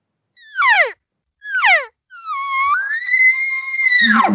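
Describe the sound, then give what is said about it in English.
Two short, descending, nasal elk cow mews, then a long bull elk bugle that climbs into a sustained high whistle before breaking down into a low grunt at the end. “You see, I'm going to go right to those two or three cow sounds and straight into the bugle.”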